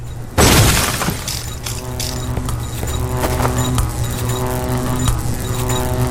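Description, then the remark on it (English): A sudden loud crash of breaking glass bursts out from a 21-foot drop onto glass, followed by scattered tinkling fragments over a steady, droning tonal background that continues to the end. “21 foot drop onto glass.”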